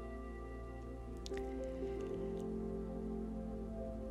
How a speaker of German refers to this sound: Entfernt hörst du ein leises Plätschern, ein Geräusch des fließenden Wassers. Es ist angenehm und beruhigend und es zieht dich magisch an. Geh mal hin. Es ist ein kleiner Bach mit glasklarem, kaltem Wasser.